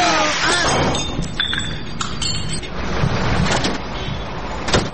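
A taxi drives by with a steady engine rumble and road noise, mixed with scattered metallic clinks and rattles, and a sharp knock near the end.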